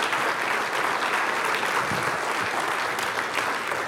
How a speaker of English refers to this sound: Now, remember that clap and yell, because there'll be days at school when you'll say, oh, I wish I was back at PCC, where they love me.